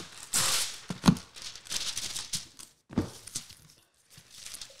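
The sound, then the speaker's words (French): Parchment paper crinkles and rustles in several uneven bursts as it is put in the bottom of a pan, with brief pauses between handlings and no one talking. “C'est juste mettre du papier parchemin dans le fond.”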